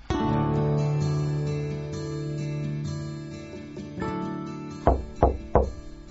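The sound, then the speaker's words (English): Three firm knocks on a front door in quick succession near the end, following several seconds of soft sustained music with no talking. “"Honey, I think there's someone at the front door."”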